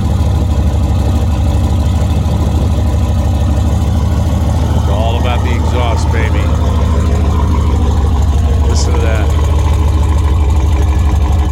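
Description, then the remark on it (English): The engine of a modified Mercedes S-Class car idles steadily, its deep, loud rumble throbbing without pause, while faint muffled voices briefly surface in the background. “But I'd like to play you a tape of it idling.”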